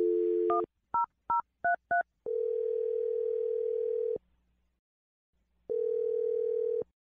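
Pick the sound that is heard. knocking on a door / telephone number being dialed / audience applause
telephone number being dialed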